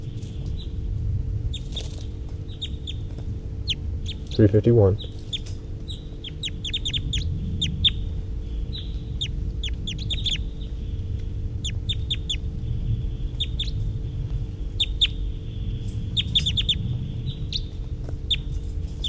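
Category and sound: bird, high-pitched bird calls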